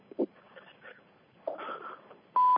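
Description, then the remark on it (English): A conference-call join beep sounds loudly near the end as callers join a Monday night conference call line, a single steady electronic tone cut off abruptly, following a few seconds of faint murmuring background noise. “Oh, my God, they're beeping in.”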